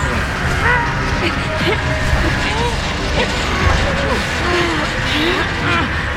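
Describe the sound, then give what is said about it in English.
A heavy door groans and creaks as people haul it upward by hand, long wavering metallic squeals over a dense, loud rumble of scraping and clanking that runs without a break. “Help us lift this door.”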